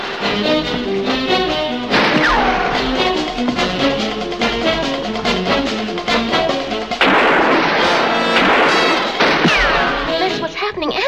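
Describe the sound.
Loud, rapid gunshots crack repeatedly over about eleven seconds in dense, overlapping bursts, fired at a man at night, with voices and other busy noise mixed in beneath the firing.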